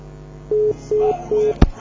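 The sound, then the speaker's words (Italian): Three short, steady phone-line beeps sound at an even pace, fairly loud, followed by a sharp click as the line cuts off on the fifteenth incoming phone call in a row with no caller speaking. No one speaks. “15ª telefonata a vuoto.”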